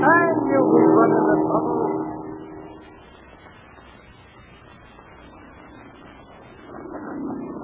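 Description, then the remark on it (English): The engine of a two-seater biplane flying low drones with a rough, steady hum, loud at first, then dropping to a softer rumble before swelling again toward the end. “It's a two-seater biplane.”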